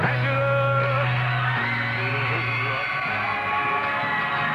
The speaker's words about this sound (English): How's young lady screaming? Sure is piercing.